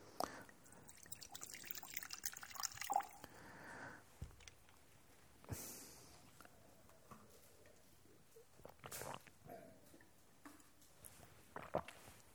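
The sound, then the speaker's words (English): A speaker quietly drinks water during a meditation talk, with soft liquid sloshing and a few brief handling clicks and bumps, no talking. “I'm just going to have a little bit of water over here.”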